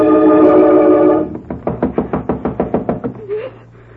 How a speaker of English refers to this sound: Yes. Yes. Somebody knocking.